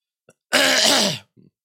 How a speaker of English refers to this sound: Sorry, I tried muting me and somehow it didn't mute. Sorry for the cough.